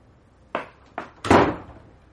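A door shutting as someone leaves: two sharp thuds in quick succession, then a heavier, louder slam with a brief booming decay. No voices.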